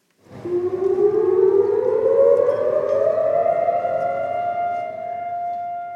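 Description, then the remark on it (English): A loud, steady civil defense siren wails continuously across Israel on Holocaust Remembrance Day, its pitch slowly rising as it sustains a single long tone, with no voices present. “Sirens blared across the country, traffic stopped on highways, and Israelis stood for 2 minutes of reflection.”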